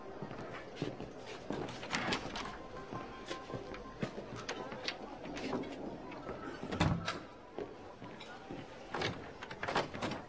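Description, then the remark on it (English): A locked door is rattled and jostled over and over, its handle and latch clacking in quick irregular bursts as someone tries to force it open, with a faint hum beneath. “Bloody, the door's locked.”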